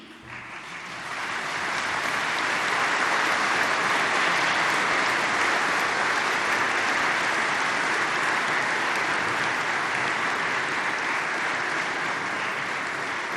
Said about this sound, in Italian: Mi permetto una malignità, L'applauso lo hanno incominciato le suore, che sono vittime delle nostre omelie